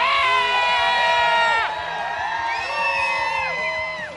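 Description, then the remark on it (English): A big crowd of Broncos fans in the stadium cheers and whoops continuously for a new Broncos player on the field, many voices blending into a loud, sustained roar with overlapping high shouts rising and falling throughout. “How'd it feel to get out in front of these fans and have them actually cheering for you this time?”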